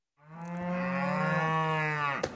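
A single long, loud moo from a cow close by, a steady low drawn-out call lasting about two seconds before a brief thump at the end, with no talking.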